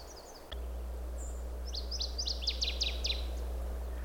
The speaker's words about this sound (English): That sort of loud song, and I say loud because I'm not very close actually, is a northern water thrush. And that is a kind of a warbler. So it's a small bird, but with a big voice. And it's a very characteristic three-parted song with this very rich